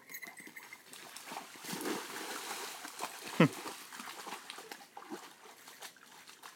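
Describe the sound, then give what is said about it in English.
Two dogs, one a guide dog, splash about in water, a steady busy sloshing with one sharp louder slap partway through, while faint voices murmur in the background. “They're splashing around.”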